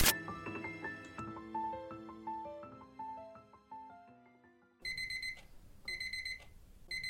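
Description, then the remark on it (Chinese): A phone alarm rings in a small studio apartment of under 10 square meters, starting with a chiming melody of stepping notes, then switching to loud, shrill repeated beeps in rapid bursts, alone with no voices. “将我拉出蚁中噩梦的是手机的闹钟声，睁眼环顾四周，是我再熟悉不过不到10平的小套房，关掉闹钟，”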